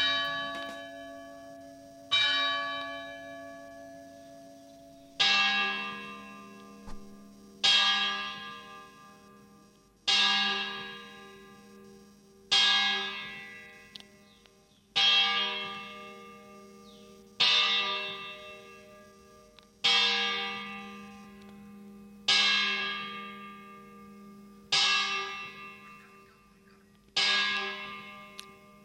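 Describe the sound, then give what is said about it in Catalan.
The bell of the Church of the Mare de Déu de la Nativitat tolls 10 o'clock in the morning, with about a dozen loud, resonant strikes evenly spaced every couple of seconds, each ringing out and fading before the next. No voices are heard. “i tot seguit de l'Església de la Mare de Déu de la Nativitat, em sorprèn el campanar i el toc de campanes de les 10 del matí, les quals he enregistrat i així les podeu escoltar.”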